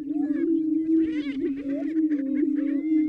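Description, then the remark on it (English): A steady, low hooting drone of deep cooing from a group of male greater prairie chickens in full display, inflating the air sacs in their necks, overlaps continuously, with higher cackling and whooping calls scattered above it throughout; no one speaks. “You hear the deep cooing sound of the greater prairie chickens inflating these air sacs in their necks.”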